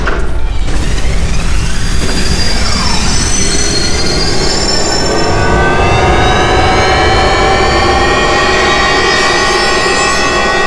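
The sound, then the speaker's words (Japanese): An engine revs up from idle to 70% output, a loud, sustained mechanical whine whose layered high tones climb steadily over a dense low rumble, with no voices. “エンジン出力アイドリングから 70% まで上昇。”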